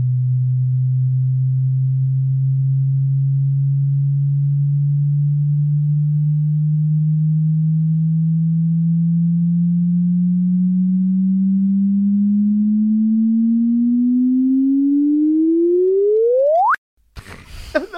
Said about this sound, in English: And I've got a clip of kind of predictions of what a chirp might sound like before they actually found one. These were the early concept chirps. Yeah. Right. This is like a demo chirp. So let's play one of those.